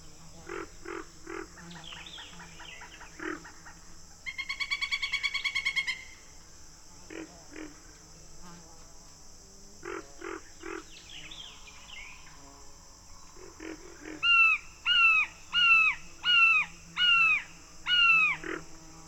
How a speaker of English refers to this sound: A pileated woodpecker.